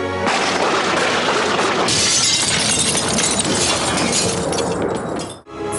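A loud, sustained crash of window glass shattering, with bright scattering shards and debris tumbling for several seconds before cutting off abruptly; no voices.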